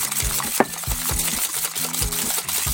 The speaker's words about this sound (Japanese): この状態で、卵を泡立てます。 はーい。 はい、ここはね、空気がたくさん混ざるように工夫して混ぜてください。しっかり泡立ててねー。